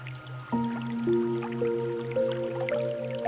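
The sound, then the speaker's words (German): Wet, watery drips and soft squishy sloshing, with ringing tones that step upward in pitch over a steady, pulsing low hum; continuous, no voices. “Nach und nach kommen auch die großen Dinos ins Wasser.”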